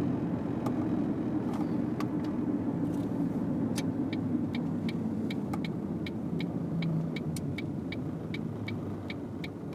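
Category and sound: vehicle, car engine idling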